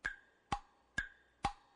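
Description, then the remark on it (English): A 30-second game timer clock ticks steadily, four crisp, evenly spaced ticks alternating slightly in pitch like a tick-tock, fairly quiet with no voices. “It's 30 seconds. The clock begins with Buzz's first clue.”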